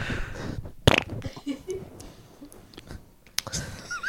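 A sputtering fart rumbles for a few seconds, punctuated by a couple of sharp bursts, with no one talking.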